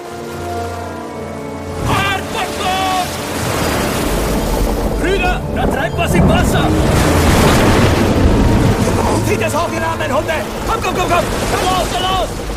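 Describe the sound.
A stormy sea roars loud at night as a pirate ship sails across it, waves crashing in a continuous deep rumble that swells throughout, with indistinct voices rising over the din at moments.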